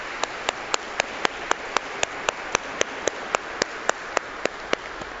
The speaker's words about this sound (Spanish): Ahora un aplauso muy fuerte para nuestros abuelitos.